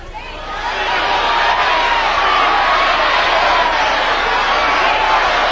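A game-show studio audience cheers and applauds loudly and steadily during a price-guessing round, a dense wash of many voices that swells in the first second and then holds at full strength with no talk over it.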